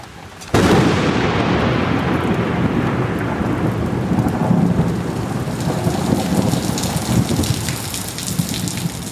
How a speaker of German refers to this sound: Beinahe täglich gibt es sintflutartige Regengüsse.